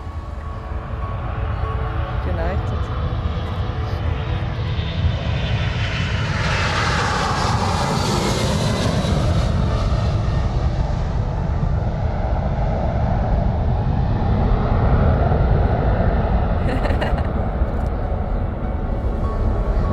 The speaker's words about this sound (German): Wieder beeindruckend, dass so Flugzeuge fliegen können. Und irgendwo spannend, wenn man da in die Röhre einsteigen kann und ein paar Stunden später irgendwo in Delhi in der Stadt stehen oder irgendwo am Meer.